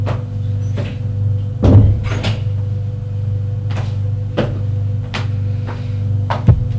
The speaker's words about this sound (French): Frappe à la porte du bureau. Entre. Il entre.